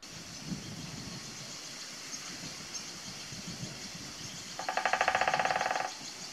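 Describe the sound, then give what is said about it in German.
A flamingo, recorded from a group of trees, gives a quick burst of rapid, nasal honking calls lasting about a second near the end, standing out loudly over a steady low rumbling background. “Für die paar Volkslehrer-Zuschauer, die jetzt immer noch grübeln, es war ein Flamingo.”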